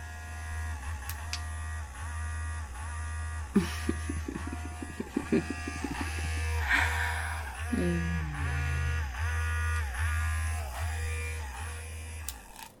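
A multi-speed vibrating device buzzes steadily with a low, loud drone, shifting into rapid pulsing bursts partway through as its vibration mode is changed, and briefly dipping in pitch before settling back to a constant hum.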